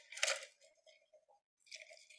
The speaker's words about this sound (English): I'm gonna take a sip of my matcha. Hold on. It's really hot still.